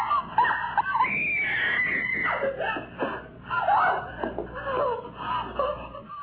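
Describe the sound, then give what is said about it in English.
A man, a prank caller, screams and yells continuously through a thin, tinny telephone line, his strained cries rising and falling for several seconds without pause. “Oh, he's still out screaming, huh?”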